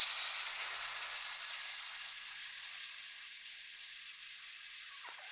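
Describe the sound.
A person makes a long, steady hissing sound with their mouth, recorded to be layered over a recorded buzz: a sustained bright, breathy noise that holds evenly for about five seconds before trailing off.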